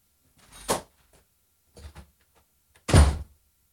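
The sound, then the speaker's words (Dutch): A front door is opened to Sinterklaas standing at the door: a sharp clack, a couple of softer knocks of handle and frame, then a heavier wooden thud, with no one speaking. “Sinterklaas staat voor de deur.”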